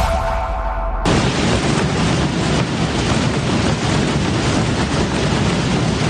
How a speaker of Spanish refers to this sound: Miles de tambores han roto la hora a la vez hoy en Calanda, en Teruel. Una de las tradiciones de este Viernes Santo que sí se ha salvado de la lluvia.